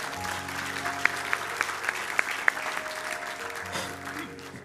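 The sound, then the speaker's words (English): After a prayer ending in Jesus' name, an audience breaks into applause, a dense, steady patter of many hands clapping with a few sharper claps standing out, and faint voices murmuring underneath as it gradually softens. “I want to, go ahead, give him a glory.”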